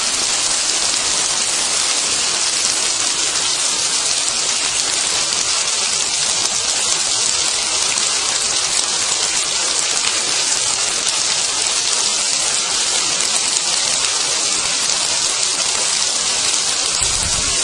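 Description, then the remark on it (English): Heavy, steady thunderstorm rain, recorded on a voice recorder, pours down in a dense, unbroken hiss for the whole stretch, loud and even with no pauses, no voices, and no thunder rumbles breaking through. “It's my ambition using this voice recorder here to record the sound of a thunderstorm.”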